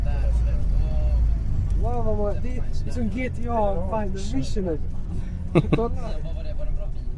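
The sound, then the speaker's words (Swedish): A loud, steady engine rumble fills a bus interior while a group of teenage boys seated around chatter and laugh, overlapping in lively, indistinct conversation. “Runt mig nu sitter ett gäng tonårskillar. Och eftersom volymen i bussen är ganska hög så är det ingen som riktigt hör vad jag säger.”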